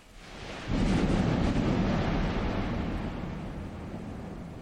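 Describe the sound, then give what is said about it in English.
A heavy thunderstorm in Texas: a deep roll of thunder surges in and rumbles on for several seconds over a steady wash of heavy rain, loud, slowly fading. “and then as I was heading back to the hotel, a Texas-sized storm moved in.”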